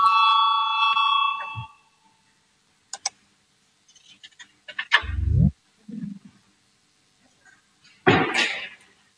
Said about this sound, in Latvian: Lūdzu zvanu, balsosim par 202. Deputāta Valaini priekšlikumu. Lūdzu balsosim.